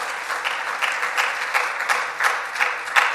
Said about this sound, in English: Yeah, that's okay. You can clap. That's all right.